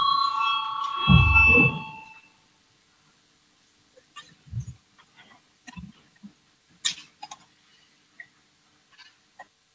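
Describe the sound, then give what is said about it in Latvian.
A loud electronic bell signalling the start of a vote on a committee proposal rings with a steady, tonal chime for about two seconds, then stops, leaving quiet with scattered soft clicks and light thumps. “Lūdzu, zvanu, balsosim par 8. Atbildīgās komisijas priekšlikumu.”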